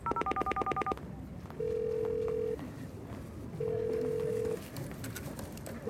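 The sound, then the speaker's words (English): A quick burst of rapid telephone keypad tones for about a second as a mobile phone is called, then steady electronic ringback tones, each lasting about a second with pauses between, the call going unanswered, clear over a faint background hum. “He isn't answering.”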